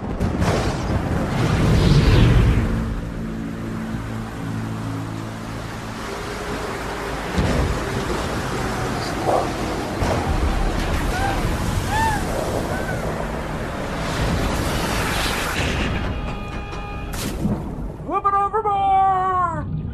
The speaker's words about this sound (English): Well, I think that the forecast called for some precipitation maybe in the next couple days, but here in the studio, there's a really dark storm bank of clouds right over the horizon, and it's coming in fast. Here it comes.